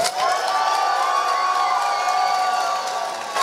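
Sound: audience clapping and cheering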